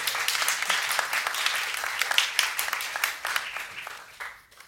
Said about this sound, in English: What is this hand? What is this hand clapping? It's like a performance or something? What is that?